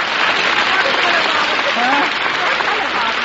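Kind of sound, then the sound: crowd, studio audience applause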